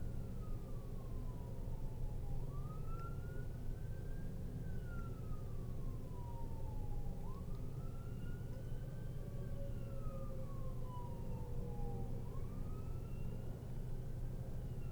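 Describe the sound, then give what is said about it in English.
An ambulance siren wails in slow, repeating rise-and-fall sweeps over a constant low rumble of city traffic, holding a fairly steady level throughout with no one speaking. “Now this is an ambulance.”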